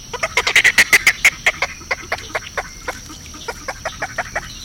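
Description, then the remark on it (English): Snowy egret calls: a rapid run of about twenty harsh, raspy croaking notes, loudest at the start and gradually fading, with no voices. “Killer hats are now a thing of the past, and we can all appreciate the snowy egret in its natural habitat today.”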